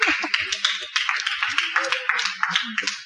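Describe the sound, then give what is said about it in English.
A crowd applauds steadily, many hands clapping in a dense, continuous patter, with faint voices underneath. “Please clap for him.”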